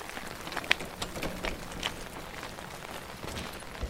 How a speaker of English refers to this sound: At least the rain's good for something. They may not hear us.